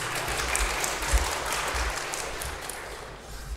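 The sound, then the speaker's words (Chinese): A church audience applauding the worship team, a steady wash of dense clapping that holds at an even level for a few seconds before tapering slightly at the end. “所以我们很多谢我们每个礼拜都精心预备这个敬拜的诗歌的个敬拜团队的弟兄姊妹，我们要给掌声鼓励他们。”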